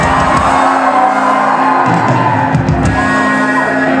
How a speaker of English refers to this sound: And I can see most people in here are pretty drunk. Give us a scream if you've had some drink tonight!